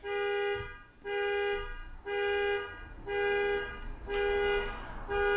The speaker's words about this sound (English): If it's not my meatloaf being ready, then it's the car alarm going off.